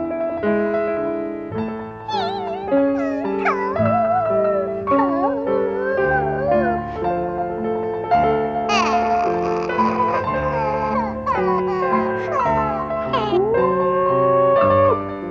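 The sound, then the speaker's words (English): Wavering dog-like howls and sobbing cries from the cartoon dog Snoopy, howling and crying crocodile tears, rise and fall in long sliding wails over slow, sad music, loud throughout, with no talking. “Thoroughly embarrassed by his howling and crying crocodile tears, Snoopy leaves the house and goes back out into the night.”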